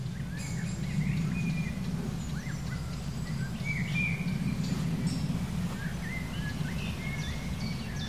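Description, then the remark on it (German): Short, sharp woodpecker ticking calls come irregularly, mixed with faint high chirps from other birds, all over a steady low rumbling background. “Und den Specht hören wir. Spechte sind aktiver auf jeden Fall als heute Morgen. Sind viel zu hören.”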